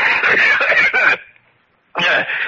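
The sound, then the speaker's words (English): A person with a cold coughs in a harsh, rapid fit of several hacking bursts, pauses briefly, then breaks into another loud cough, raspy with no talking. “I have a cold. You should take better care of yourself, Fortunato.”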